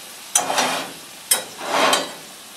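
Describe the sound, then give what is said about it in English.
Bursts of sizzling from food frying in three pans on a wood stove, each starting with a sharp hiss that swells and fades, moderately loud, with no talking. “It's a little bit trickier juggling three pans at once than it would be frying with just one.”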